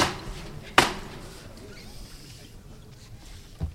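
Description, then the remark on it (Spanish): A hammer strikes the wooden screen door in front of a parish church's outer door with one loud, sharp knock, followed by a softer second knock a few seconds later, over a low background murmur. “Ambos de momento, bueno, concentrados, va a sonar de nuevo el martillo.”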